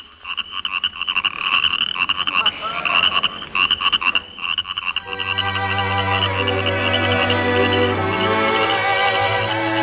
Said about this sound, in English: Yes, sir, we'd really get a big bang out of hearing some good old frogs and crickets. Well, sailor, that's for you. Take a big yawn while our genius in charge of sound gets hep to the crickets and the frogs.